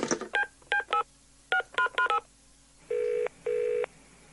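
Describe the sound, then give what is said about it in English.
A quick series of touch-tone dialing beeps on a porcelain telephone, six short dual-tone presses in an uneven rhythm, followed by two longer, steady tones, clear with no talking. “Pass me that porcelain phone.”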